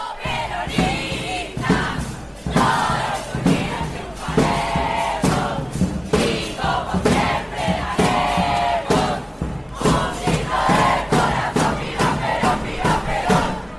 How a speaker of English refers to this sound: And they were outside till like 4 a.m. Chanting and cheering as they were waiting to find out who was going to be the student body president elected for the next year.